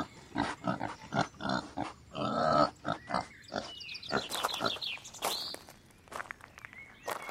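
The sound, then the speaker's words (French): A pig grunts and snorts repeatedly in short, uneven bursts, with a few higher squeaky snuffles mixed in and no talking. “C'est le cochon qui grogne.”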